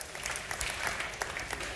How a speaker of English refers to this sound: You clap like you almost believe that.